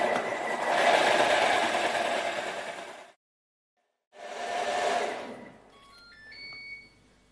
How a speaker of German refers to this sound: Also wenn etwas schön cremig sein soll, dann muss man immer eine Minute mixen, sonst schafft man das nicht.